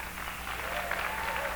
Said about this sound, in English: And you know, you really should give her a lot of applause, because if she wasn't playing, I'd have to play. And you don't want to hear me play. So give her another hand.